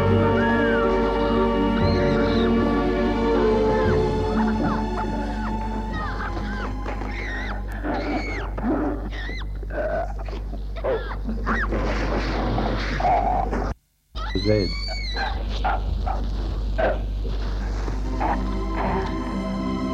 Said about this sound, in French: Des chiens aboient dans la nuit.